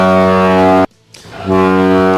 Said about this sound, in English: I gotta turn down your foghorn, Greg. It's very loud. Very, very loud.